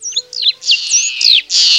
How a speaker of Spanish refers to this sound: Es la loica. También es fácilmente reconocible su canto